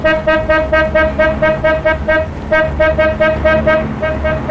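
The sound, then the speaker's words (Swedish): A vehicle horn honks over and over in quick, rhythmic bursts, loud, with a low engine rumble underneath and no one speaking. “Har du fått ont i tutan?”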